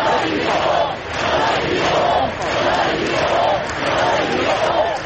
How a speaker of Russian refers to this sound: Собравшиеся скандировали: «Нам не страшно».